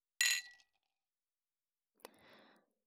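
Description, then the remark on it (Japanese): Drinking glasses clink in a toast: a bright glassy clink rings out and fades quickly, followed after a pause by a softer tap and a brief rustling, shuffling sound as the glasses are lifted and moved. “乾杯するために隣まで来たのに。さ、あなたもグラスを持って。”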